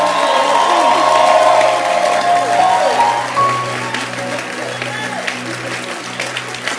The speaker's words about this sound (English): I want us to appreciate him with a hand clap.